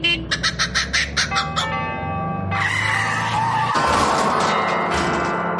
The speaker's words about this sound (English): That's a kookaburra in a Hillman Minx colliding with a set of tubular bells.